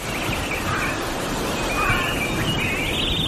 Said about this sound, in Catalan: però el Cori, igual que el Martí Oliveres, van acompanyats d'uns cants d'ocells just abans de les seves aparicions.